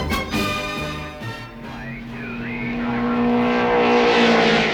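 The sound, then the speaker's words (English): Race car engines roar loudly and continuously at a car race on a racetrack, their pitch climbing as they rev and swell, the whine growing louder toward the end. No one speaks. “it sure is fun to go to all these car races now that summer vacation's here.”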